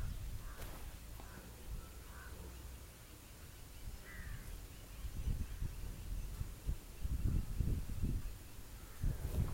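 A crow caws a few times in short, scattered calls, not very loud, over a low rumbling background that swells toward the end.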